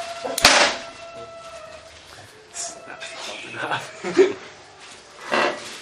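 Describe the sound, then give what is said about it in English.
A leather belt is whipped against a chair to show children what a whip is like, with a single sharp, loud crack near the start, followed by scattered voices and a little laughter. “You want a real leather belt? So I show the kids what it looks like to have a whip.”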